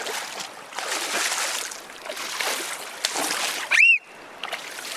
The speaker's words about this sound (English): Are you trying to splash Woody? Yeah. Because I think Woody can do a bigger splash than you.